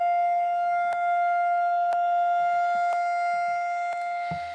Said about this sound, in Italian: Le sirene hanno risuonato in Israele questa mattina per commemorare il secondo anniversario degli attacchi terroristici condotti da Hamas contro alcuni kibbutz e contro un festival musicale